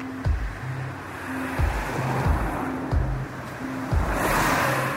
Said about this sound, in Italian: Adesso siamo all'ingresso del cimitero, vi facciamo sentire quanto sono vicine le macchine che passano qui di fronte.